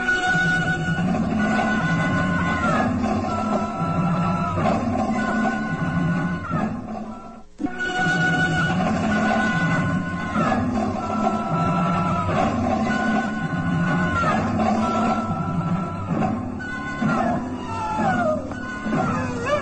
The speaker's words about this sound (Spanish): Un lúgubre y lejano aullido se confunde con el ulular del viento. Y el inspector de policía queda inmóvil, impresionado.